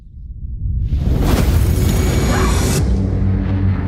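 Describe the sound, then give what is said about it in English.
A massive explosion from a fragment impact in Central Florida erupts after a low rumble, swelling into a loud, sustained roar with a hissing, crackling rush that fades slightly but keeps rumbling heavily to the end. “Wait, where's the explosion?”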